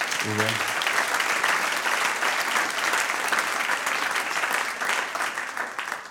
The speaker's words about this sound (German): Und jetzt schauen wir mal, die Technik hat sich wirklich mit ganzer Hingabe reingehängt, damit sie diese PowerPoint heute noch möglich gemacht hat. Ich glaube, wir dürfen euch einen Applaus geben.